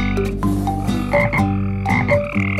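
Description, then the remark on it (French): A frog croaks loudly in a quick, rhythmic series of throaty, rasping pulses, roughly twice a second, with no voices present. “Ma petite grenouille, elle me les chatouille.”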